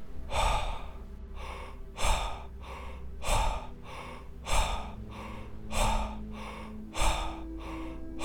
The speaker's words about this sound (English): Power breathing. Belly, chest, out. Double speed.